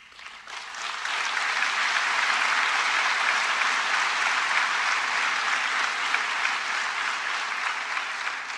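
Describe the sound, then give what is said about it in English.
A crowd cheering Barack Obama's critiques of President Trump breaks into loud, sustained applause, a dense wash of clapping that swells within the first second and holds steady to the end, with no voices standing out. “The crowd cheered his critiques of the current commander-in-chief.”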